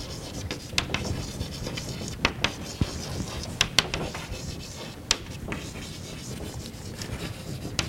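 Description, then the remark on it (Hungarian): The phrase 'regularly repeating process' being written on a board: a steady scratchy rubbing of strokes, broken by several sharp taps and clicks at irregular moments, with no clear talking over it. “Ez rendben van, azonban egy egyedi tömegáthelyezés még nem jelent közlekedést, ennek rendszeresen ismétlődő folyamatnak kell lennie, tehát ide írjuk, hogy rendszeresen ismétlődő folyamat.”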